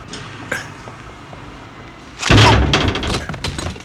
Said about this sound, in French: Il se prend la porte, là. Oh là là là là.